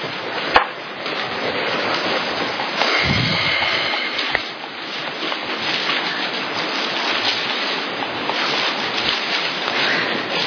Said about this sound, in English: Turn to 1 Thessalonians 5:23. New Testament. It's so great to hear those pages turning. It's a good thing.